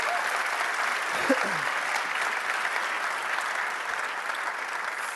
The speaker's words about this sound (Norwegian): Så bra. En applaus til for en flott gjeng.